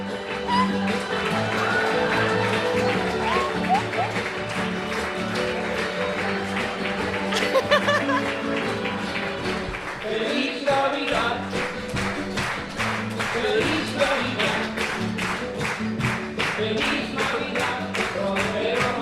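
Steady, loud applause from many hands for a co-host introduced as a favourite Christmas elf fills the whole stretch, a dense crackle of clapping that grows more even and rhythmic toward the end, with some voices mixed in.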